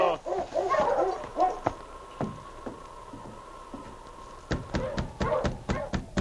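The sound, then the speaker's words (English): A husky barks and yelps in a quick burst of several loud calls, followed by quiet and then a run of sharp rhythmic taps like knocking or footsteps. “How you, Husky?”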